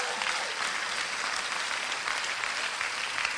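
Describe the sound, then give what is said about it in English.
A church audience applauds at its first in-person Easter (Resurrection Sunday) gathering in over 2 years, a dense, steady patter of many hands clapping at once that holds at an even, fairly strong level throughout, with no voices standing out. “today marks the first time we are gathering in person to celebrate Resurrection Sunday for over 2 years, and that deserves a clap.”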